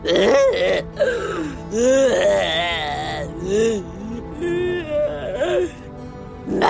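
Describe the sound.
A voice imitates a dinosaur crying: fairly loud whimpering and moaning sobs with wavering, swooping pitch, several drawn-out wails in a row with brief breaths between.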